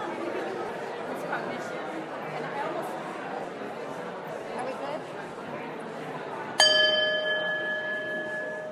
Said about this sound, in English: We'll ring the bell to call you back.